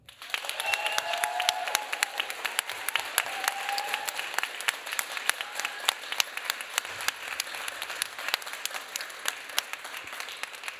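An audience at a stage competition applauds steadily for about ten seconds to vote a contestant, a teacher, into the final: a dense wash of many hands clapping with a few brief cheers or whoops rising above it early on.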